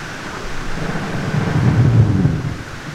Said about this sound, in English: The recording that you're listening to here has a lot of noise, or what appears to be static, and you have to think of millions and millions, if not billions, of bubbles from brash ice floating around the surface as that melts.